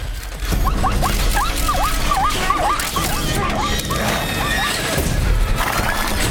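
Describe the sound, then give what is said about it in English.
A zebra named Stripes gives a rapid run of high, squeaky whinnies and squeals as its rider struggles to hold it, over a steady, noisy bustle of racehorses champing at the bit at the race's starting gates, fading briefly before a few more calls near the end. “Channing struggles to hold the squeaking Stripes. The other horses are champing at the bit.”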